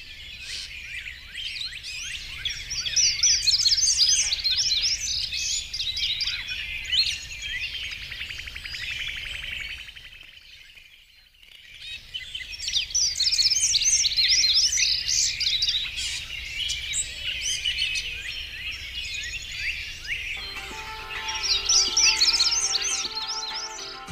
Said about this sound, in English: We're going to hear a little more dawn chorus while we go toward the end of the show.